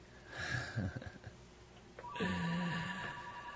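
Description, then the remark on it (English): A telephone rings with a steady electronic tone, moderately loud, starting after a brief muffled rustle and holding for over a second. “Hey, the phone's ringing.”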